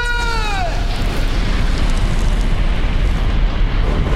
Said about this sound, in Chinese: 紧急求救！紧急求救！呼叫海防队！我们是罗斯玛丽号客轮，引擎机房爆炸，船身下沉，有乘客落海，请求支援。